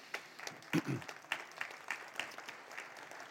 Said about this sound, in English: Go ahead and stand up if it's a good time. Yeah, clap.